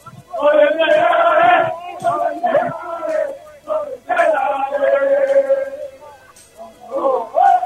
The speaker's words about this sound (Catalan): escolteu, perquè aquests càntics són de s'equip.